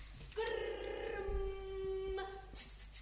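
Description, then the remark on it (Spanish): A sound art piece called Schutzengrum, built from German phonemes, consonants linked to one another: a single held vocal syllable, a steady, mid-pitched vowel-like tone rich in overtones, sustained for about two seconds before cutting off, with no talking. “Qué bueno esto, ¿qué estamos escuchando acá de fondo? Esa obra se llama Schutzengrum.”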